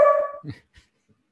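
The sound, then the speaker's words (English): The speaker's dogs bark at home, one drawn-out, tonal bark followed by a shorter, rougher yelp, then the sound quickly fades into near silence. “My dogs are barking.”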